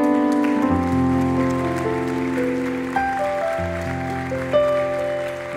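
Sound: welcoming applause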